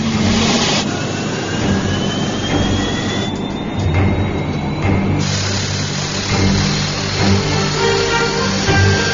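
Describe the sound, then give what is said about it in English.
An aircraft's number one engine is started a second time on the tarmac and spools up, a steady roar with a rising whine climbing in pitch as it revs, continuous and unbroken with no voices. “The engine looks good now, so second time, everything's a little looser, everything went a lot better, we got it up there just fine.”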